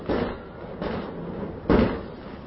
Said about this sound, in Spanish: ¿Es pólvora? ¿Es pólvora o qué? No parece. No para, parece tiros. Ay, lo niño mío, ¿dónde estará? Son tiros.